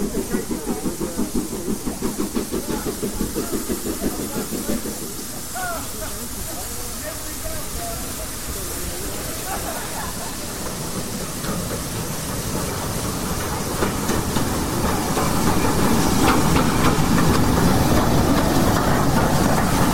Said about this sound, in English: Well, now the signalman at Harman's Cross is over the other side with the single line token for the service train, which is coming in to Harman's Cross now.